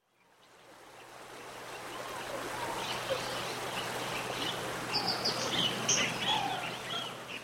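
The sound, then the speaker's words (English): Jungle ambience: a steady rushing stream fades in and fills the scene, while scattered high bird chirps and calls break through in the second half, moderately loud with no voices. “Professor Green and the parrot went to the jungle.”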